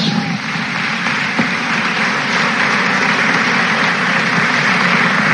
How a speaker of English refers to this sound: One more big round of applause for all our seniors.